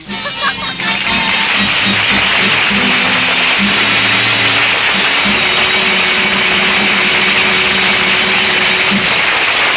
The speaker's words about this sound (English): You can take along your outboard motor, too.